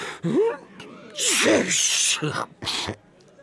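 Heavy, repeated sneezing caused by the pungent smell of cinnamon powder spilled from a burst sack: a voiced wind-up gasp followed by two forceful, bursting sneezes, loud, with no talking.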